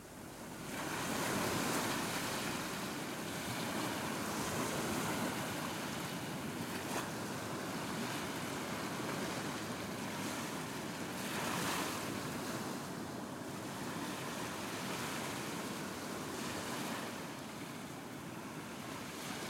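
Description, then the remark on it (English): Ocean surf at Rockaway Beach, New York, rolls and washes onto the beach in a steady, continuous roar, with broad swells rising every few seconds and some wind noise. No voices. “Before I became a billionaire, I used to surf in New York on Rockaway Beach, and I've recently found a recording of the waves there that is very precious to me.”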